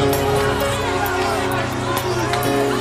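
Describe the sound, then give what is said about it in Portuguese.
A large crowd clamors in a steady, loud wall of overlapping voices and shouts, dense and continuous throughout, with sharper cries poking out now and then. “Os soldados cuspiam no teu corpo nu, mas ouvir o clamor da multidão.”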